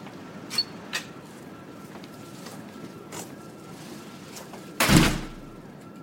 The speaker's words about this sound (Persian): در کشویی تراس رو باز میکنه. روبروش دریاست.